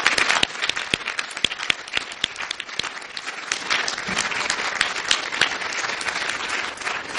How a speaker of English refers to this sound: And another round of applause for Dr. Becklake and Dr. Julien, the Order of Quebec.